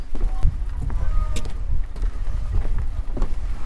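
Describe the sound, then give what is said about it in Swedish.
A boat-washing machine at pier 1 of the summer harbour in Visvas cleans the bottom of a large sailboat without lifting it onto land, a steady mechanical rumble with hissing spray and occasional knocks and clatters, in an open, breezy outdoor setting. “Här håller de på för fullt och tvättar en stor segelbåt.”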